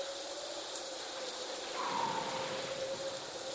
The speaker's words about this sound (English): Man, what's that rain?